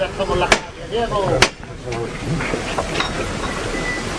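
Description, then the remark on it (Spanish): Two sharp, loud knocks of the foreman's hammer striking the wood of a procession float (paso de misterio), calling its bearers, about a second apart, ring out over a murmuring crowd with people talking in the background. “Toma el martillo”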